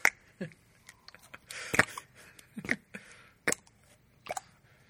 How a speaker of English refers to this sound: Oh, I found a new sound. Oh, hey, yeah. I guess it is noise putty. I gotta stop calling it fart putty now. You proved me wrong. I don't like anything about that sound. But it's different. It's like, oh, we're broadcasting from a sewer.